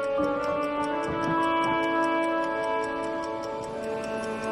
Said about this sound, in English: He looks over his shoulder at the clock as it makes noise. Its hands spin violently.